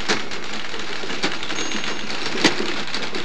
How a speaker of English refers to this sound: She's typing away. We know that the ribbon has come away from the keys, and she's, you know, sort of like going along and typing away anyway, as if she might be fooling somebody.